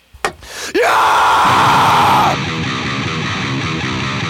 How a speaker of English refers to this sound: Give me a scream